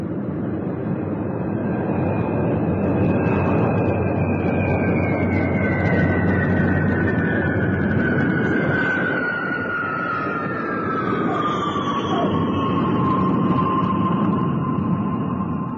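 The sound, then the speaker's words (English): A steady, loud roar of aircraft engines with a high whine that slowly drops in pitch as the plane makes a soft landing, then taxis along the runway to its far end and turns, with no voices. “It was a soft and easy landing. The plane taxied to the far end of the runway and turned”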